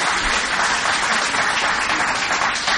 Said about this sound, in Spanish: Y se aplauden, claro que sí.